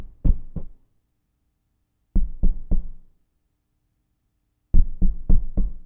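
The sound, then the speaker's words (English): Loud knocking on a door in short bursts, first two raps, then three, then a quicker run of four, with brief silent gaps between each group. “You know who that is knocking on the door of your heart?”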